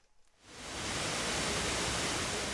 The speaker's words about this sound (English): One of the first things you notice when you walk into the storehouse is a waterfall bathed in blue light, representing the water from the nearby Wicklow Mountains that Guinness uses to brew its stout.